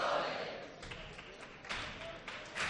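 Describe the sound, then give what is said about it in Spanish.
The audience in the upper gallery claps palmas along in a steady, rhythmic pattern for a band's popurrí at a chirigota contest final, with a few voices calling out encouragement over the noise. “El gallinero que les premia tocando palmas, algún grito de ánimo y los dos guitarras que ya se miran para iniciar la última pieza y va a acabar con ellos las chirigotas.”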